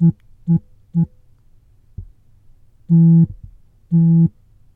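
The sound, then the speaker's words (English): A phone held up to a microphone previews the Morse code tone pattern called terse: three short beeps, a pause, then two long tones, clear with no talking. “So I'm going to hold the phone again to the mic. And here we go, here's terse.”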